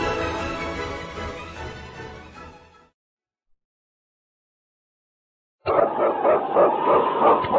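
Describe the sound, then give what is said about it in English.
Husky sled dogs, including King, lead dog of Sergeant Preston in the radio show Challenge of the Yukon, bark loudly and steadily for a few seconds, then silence falls before another burst of excited barking and yelping returns, energetic. “It's King, swiftest and strongest lead dog of the North Country, blazing the trail for Sergeant Preston of the Northwest Mounted Police in his relentless pursuit of lawbreakers.”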